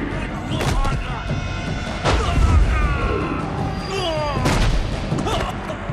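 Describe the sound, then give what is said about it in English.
A man grabs two assassins by the arm, bangs them into each other and flips them face down onto cobbles in a few heavy impacts, spaced a couple of seconds apart, amid busy tonal sounds that could be music or vocal effects. “The assassins come at him and he grabs each by the arm, bangs them into each other, then flips them both face down onto the cobbles.”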